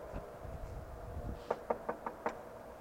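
Five crisp knocks on a door in a quick, steady rhythm, sounding fairly close, after a second or so of low background rumble with no one talking.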